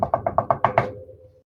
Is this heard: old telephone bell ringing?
no